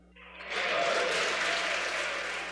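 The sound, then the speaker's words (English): Pennsylvania lawmakers burst into applause at the governor's remarks, the clapping swelling within half a second into a dense, steady roar that holds loud before easing slightly at the end. “Not everyone was cheering, but Republican Senator Mario Scavello of Monroe County took the jibe in stride.”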